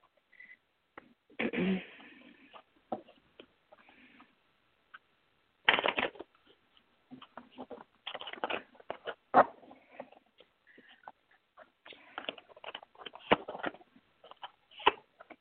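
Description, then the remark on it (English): Tarot cards being shuffled in uneven bursts of papery riffling and flicking, with brief quiet pauses between; no one speaks. “Okay, I just have to shuffle them.”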